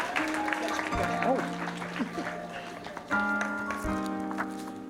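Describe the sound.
A large crowd applauds steadily throughout, a dense continuous patter of many hands, with sustained keyboard or organ chords and indistinct voices underneath.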